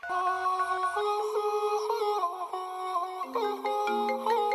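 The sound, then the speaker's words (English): A phone rings with a melodic electronic ringtone, a steady run of bright stepped tones that plays continuously and fairly loud, with no voices over it. “pass me the phone. Hello? Hello?”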